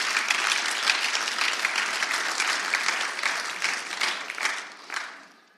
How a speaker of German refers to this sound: Da dürfen wir gerne nochmal für klatschen, für die 5 Leute.